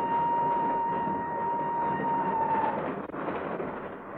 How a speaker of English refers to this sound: Not until the train started to move from the platform.